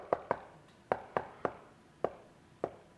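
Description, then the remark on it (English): Seven sharp knocks in an uneven rhythm, the first few in quick pairs and the rest more spaced out, sounding fairly solid, with no voices. “And you quit knocking.”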